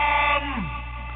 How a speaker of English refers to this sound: Party alarm!